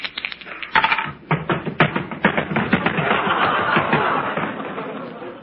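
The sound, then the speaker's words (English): A pair of dice rattles in a rapid, continuous clatter of small hard clicks that builds into a busier shaking noise, lasting several seconds with faint background chatter. “Phil, give me a pair of dice, will you? Thanks.”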